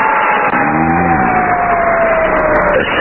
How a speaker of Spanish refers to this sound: Están abriendo una puerta por medio de electricidad. De seguro es una entrada secreta hasta el refugio.